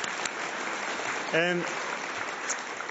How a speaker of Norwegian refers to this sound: Ja, det er lov å klappe for den.